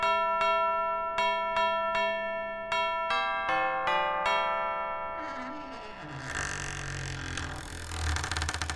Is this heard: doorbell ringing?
yes